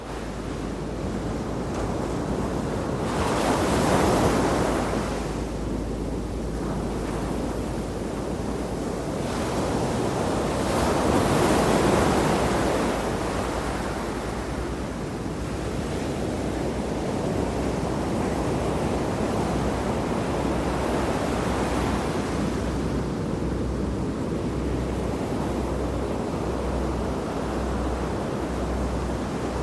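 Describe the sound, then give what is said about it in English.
Ocean waves wash in continuously, with broad surges of surf swelling around a few seconds and again near twelve seconds, over a steady windy rush. No voices, just the irregular roar of the sea. “Let me just play some random ocean sounds here that are really beautiful.”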